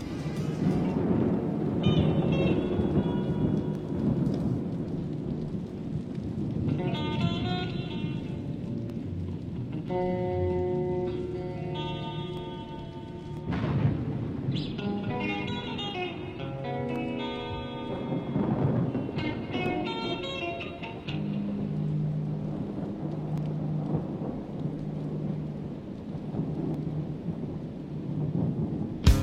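Deep, rolling thunder rumbles steadily for the whole half minute, with sustained musical tones and chords rising over it like the opening of a rock track. No one speaks.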